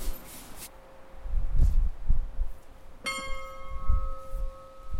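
A bell is struck once partway through, its bright metallic tone ringing out and lingering with a long resonant hum, over a low rumbling background and a faint tone carried over from earlier.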